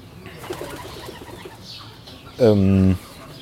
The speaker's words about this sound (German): Oh. Eine Taube. Direkt über mir.